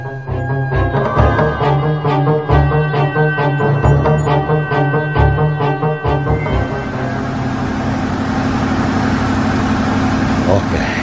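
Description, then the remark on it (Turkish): A truck engine idles with a steady rhythmic throb, then rises into a louder, rougher, continuous roar as it revs and pulls away. “Sür şu kamyonu. İstediğin gibi sür.”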